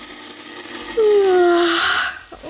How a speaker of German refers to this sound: Am nächsten Morgen klingelt es schrill an der Tür zum Elefantenhaus.